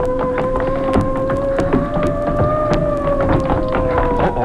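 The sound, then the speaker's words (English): A police boat's engine drones loudly and steadily as it approaches a dock in fog, its whining tone swelling slightly, with scattered knocks and clicks over the hum and no voices. “A police boat.”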